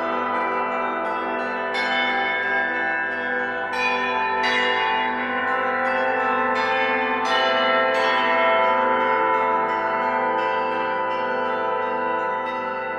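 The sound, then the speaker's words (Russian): Church bells ring continuously and loudly from a church bell tower, with repeated sharp strikes layered over a sustained, resonant hum of overlapping tones. No voices are heard. “А потом, когда вот впервые на уроке я услышала колокольный звон, я вот ощутила такой восторг и поняла, что я в такое место попала.”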